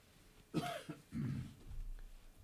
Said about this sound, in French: Excusez pour la petite toux.